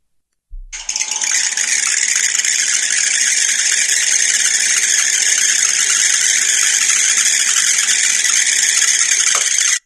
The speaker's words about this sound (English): You throw them on the pan, they start bouncing and they start screaming in a way